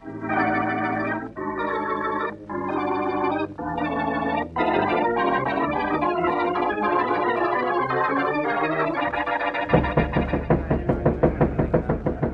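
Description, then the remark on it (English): A steady series of loud knocks on the Rogers sisters' door by police officers, several blows in a quick even rhythm, arriving after a dramatic burst of orchestral music that keeps playing underneath; no one answers. “No use, boys. No one's going to answer the door.”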